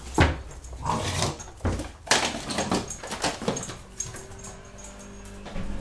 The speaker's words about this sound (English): Oh, here's Poppy with the plant pot. Oh, interestingly, there's no plant left in it. Oh, Poppy, you've emptied. Okay, I've got to go. She decided to empty the plant pot to some garlic. Yes. Oh, well, let's have some dog going crazy sound effects.